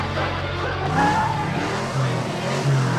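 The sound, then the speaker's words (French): American car tires screech with a high squealing whine over the steady low rumble of an engine, loud, the skid sound rising and fading across a few seconds. “crissement de pneus américaine.”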